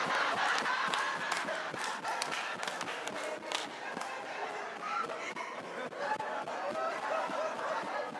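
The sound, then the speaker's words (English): A large live audience erupts in loud, sustained hollering and cheering, a dense wall of shouts and whoops with scattered sharp claps, steady throughout. “Ain't that something that you noticed how the crowd went down on that?”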